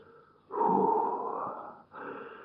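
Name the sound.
snorting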